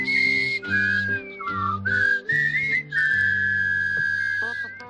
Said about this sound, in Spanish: Ellos son de los que silban.